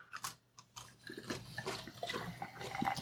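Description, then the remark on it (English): A drink is cracked open with a sharp snap and a second small click, then a steady fizzing, bubbling hiss that grows slightly louder for a couple of seconds. “That was a good crack.”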